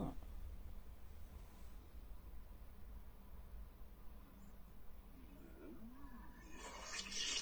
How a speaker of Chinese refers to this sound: 龙猫打喷嚏。 龙猫打喷嚏。